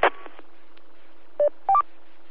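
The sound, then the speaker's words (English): A few short telephone keypad tones beep in quick succession as someone dials a phone, clear, over a faint steady hum, with no talking. “Let me see if I can raise him on the phone.”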